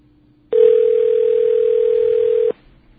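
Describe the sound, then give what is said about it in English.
A steady, unbroken telephone dial tone from the BAI phone system sounds for about two seconds, loud and even in pitch, then cuts off abruptly, leaving only faint background noise. “That's the BAI phone system not working again.”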